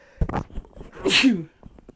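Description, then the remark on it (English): A single sharp sneeze bursts out midway, breathy and explosive, following a moment of quiet mumbled talk. “I just sneezed.”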